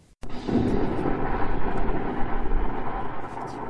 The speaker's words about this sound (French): Bruit d'explosion sourd.